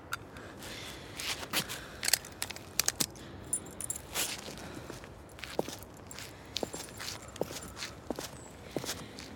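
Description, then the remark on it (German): Keys jangle with light metallic clinks over a steady run of footsteps as someone walks slowly toward a car, unarmed and holding only a key. Irregular crisp taps spread across several seconds, fairly quiet with no voices. “Ich habe nichts, okay? Nur den Schlüssel.”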